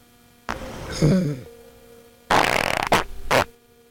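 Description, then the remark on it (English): A loud, rumbling zebra fart with a low buzzing tone, followed by a longer noisy, sputtering burst that breaks into two more short blasts. “The zebra had a kind of a alarmingly loud fart, actually.”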